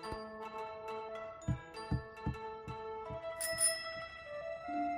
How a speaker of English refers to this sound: The tiger bike? You win the tiger bike? Well, no, but they gave me the bell.